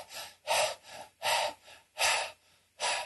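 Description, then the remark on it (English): A person imitates the heavy, dog-like panting of an elderly man in his 80s sitting in half lotus: loud, breathy huffs alternating with softer in-breaths in a quick, steady rhythm, with no talking. “He was breathing like a dog. He was basically panting.”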